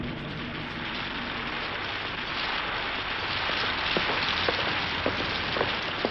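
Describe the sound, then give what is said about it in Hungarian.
Steady rain pours down in a dense, even hiss, with a few sharper drips and spatters standing out toward the end. No voices are heard. “Utálatos egy idő. Kezdek fázni. Esik.”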